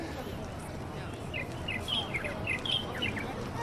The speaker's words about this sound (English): because birds naturally can see a hole around the tree in the park and they start singing. There's a lot of older Chinese men take their birds in the park every day.